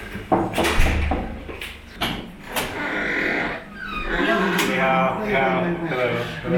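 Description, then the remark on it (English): An unmarked door on the sixth floor of an apartment building in Beijing, China, opens with a low thud and a few sharp clunks near the start, followed by a steady murmur of indistinct voices inside a secret church. “On the sixth floor of a Beijing apartment building, an unmarked door.”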